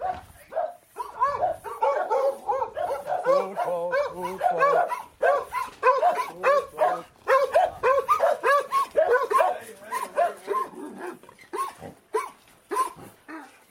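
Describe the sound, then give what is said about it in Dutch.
Several dogs bark and yap excitedly, a dense, overlapping stream of loud barks and high yips that carries on almost without pause throughout. “Moet ik wel even de honden op slot doen?”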